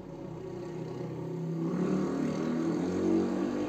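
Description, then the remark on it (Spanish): Steady roar of road traffic as cars, trucks and motorcycles pass at high speed, engines rising and swelling as vehicles rush past, a continuous rumble that builds toward the end. “Los vehículos pasan a alta velocidad. Carros, camiones y motocicletas que sortean su agilidad y, muchas veces, su imprudencia.”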